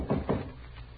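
Two quick, heavy knocks on a wooden door, fairly loud, followed by a short stretch of quiet room tone.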